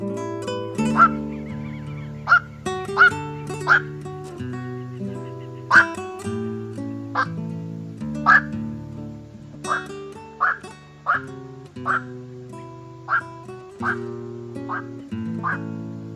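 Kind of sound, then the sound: bird, black-crowned night heron calls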